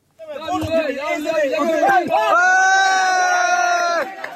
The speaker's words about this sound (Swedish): Applåder och jubelrop när en kvinna vid liv sakta dras ut genom en springa i rasmassorna. Det är ett tidskrävande räddningsarbete som till stor del sker för hand.